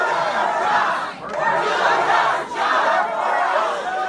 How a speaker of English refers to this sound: I said governor, I meant senator there, but crowds chanting, "Do your job."